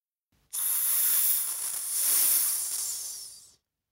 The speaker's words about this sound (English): Snake.